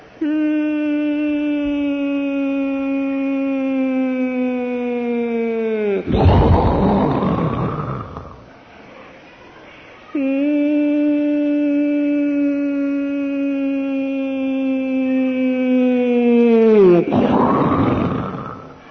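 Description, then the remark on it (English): A voice imitates bombs falling on Calcutta during the Second World War, twice: a long, steady whistling tone that slowly drops in pitch, then a loud, rough burst for the explosion. A brief quieter pause separates the two. “Prabhupada would like to imitate bombs.”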